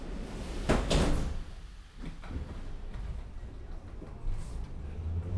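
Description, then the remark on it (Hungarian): Train doors slide shut with a sharp whoosh and thud, followed by a softer knock, over a steady low rumble of a carriage interior. No one speaks. “Kérem, vigyázzanak, az ajtók záródnak.”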